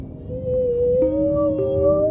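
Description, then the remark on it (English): Whale song heard underwater while diving down to depth: a long, sustained tonal moan that slowly rises in pitch, joined by a lower steady tone, over a constant low watery rumble with no voices. “To listen to the song of whales as you dive down to depth, to a place where, you know, you have no breath, but you have eternity, you have infinity.”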